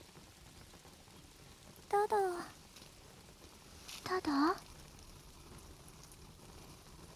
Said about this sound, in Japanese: あの時もこんな雨だったなって。